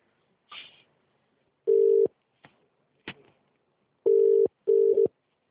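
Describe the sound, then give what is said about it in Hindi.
A phone dials with a few short button clicks, followed by loud, steady ringing tones in repeated bursts, clear with no voices. “सबसे कि करके खिचिर खिचिर अब करना पड़ेगा फोन में।”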